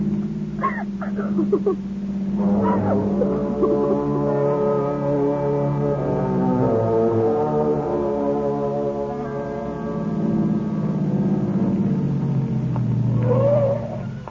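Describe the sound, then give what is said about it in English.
A car drives over a bumpy road, its engine droning in a steady, low, rumbling hum that fills the whole stretch, with faint shifts in pitch along the way. “Turn into it. Yeah, it's a bumpy road.”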